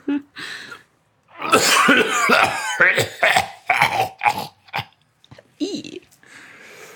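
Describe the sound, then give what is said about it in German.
A voice imitates a deep, rasping, demonic-sounding cough: a long guttural burst followed by several shorter hacking coughs and throat-clearing sounds, loud, with no words spoken. “Ein Husten, der eher dämonisch als menschlich klingt.”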